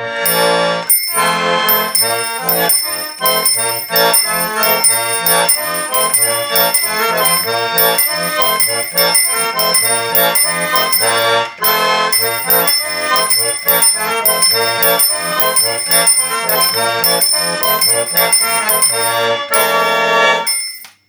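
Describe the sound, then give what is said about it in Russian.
Small bells on an old Nikolsk talyanka accordion, struck in turn by a spring-loaded hammer on two bells when a button is pressed, ring steadily and brightly over a lively accordion tune, chiming continuously through about twenty seconds of loud playing with a short break midway; no one speaks. “Конструкция интересная, на пружинках молоточек бьет по двум колокольчикам, видите, по одному и по второму.”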